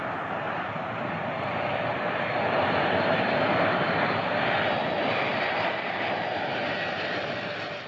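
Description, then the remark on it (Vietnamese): An Israeli Air Force military airplane engine roars loudly and steadily, a dense, unbroken drone that holds at the same level from start to finish with no voices. “Các máy bay của không quân Israel đã chở những người tử nạn hay bị thương và các du khách còn sống sót trong vụ tấn công chiếc xe buýt về nước.”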